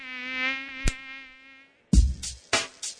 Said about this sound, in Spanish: El mosquito que transmite el dengue vive en el agua clara que parece limpia y se junta en las gomas, los tachos, los aljibes, cacharros, chapas acanaladas que juntan agua, tanques de agua sin tapa y floreros.